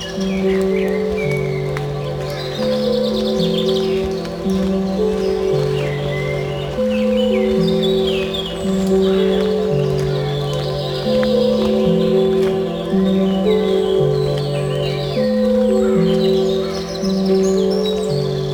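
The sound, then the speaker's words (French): Birds chirp and twitter steadily in the background throughout along a long forest track, partly masked by a louder, slow, stepping tonal melody that plays continuously over them. “il y a parfois beaucoup plus de sons d'oiseaux qu'ailleurs.”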